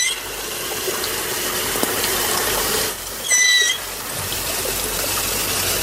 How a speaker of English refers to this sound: Is that really the dugong? I've heard... Sounds like a dolphin to a certain extent.